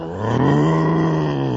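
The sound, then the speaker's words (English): A person growls in imitation of a roaring tiger, one sustained, low, rumbling roar lasting over a second, loud, with no other sounds around it. “I'm a roaring tiger.”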